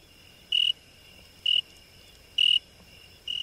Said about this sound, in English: Set to the sound of crickets chirping, just over 30 paintings and drawings hang on the walls of an Academy gallery.